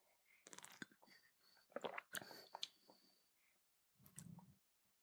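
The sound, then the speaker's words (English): Quiet sipping of matcha tea from a cup: a series of wet slurps, lip smacks and small clicks over a few seconds, with a brief pause before a final sip and no talking. “So I'm going to take my first sip.”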